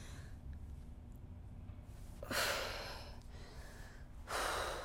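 A woman breathing heavily and moaning in labor, with two loud, drawn-out breaths about two seconds apart over a low, steady background hum; no one speaks.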